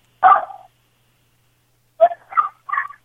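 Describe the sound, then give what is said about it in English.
A dog barks once, then after a pause of over a second lets out three quick barks in a row. The barks are clear, with no voices around them. “Oh, can you tell that dog to shut up?”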